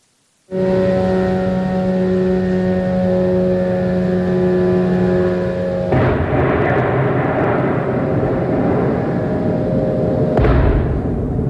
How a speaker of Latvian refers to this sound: Un viss sākās īsi pirms diviem naktī, kad pilsētas debesīs sāk skanēt mopēdu dūkoņi un šādu troksni rada lidojošie šahed kaujas droni, ar kuriem Krievija kārtēja reiz uzbruka pilsētai, un tie bija labi dzirdami arī te centrā. Paklausamies!